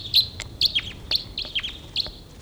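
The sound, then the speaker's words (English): Two wild birds calling in quick, repeated chirps: sharp high-pitched notes with rapid downward sweeps, several bursts in a steady rhythm, fairly loud over a low background rumble, with no talking. “Two birds coming in here.”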